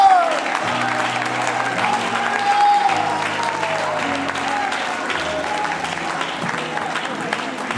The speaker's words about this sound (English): Well, let's all stand together and clap our hands and thank the Lord. Hallelujah!